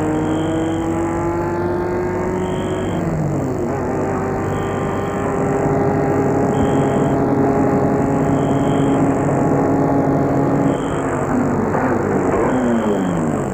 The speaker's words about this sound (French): La voiture s'est arrêtée devant le perron.